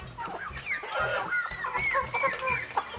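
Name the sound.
hen clucking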